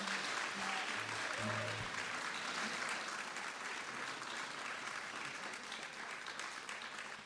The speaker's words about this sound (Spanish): Un aplauso fortísimo.